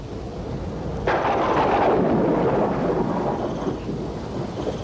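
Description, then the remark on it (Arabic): A deep roll of thunder from a thunder-and-lightning storm under a clouded sky breaks in suddenly about a second in, swelling into a broad, loud rumble that slowly fades, over a steady background hiss of storm noise. No voices. “إنه الرعد والبرق.”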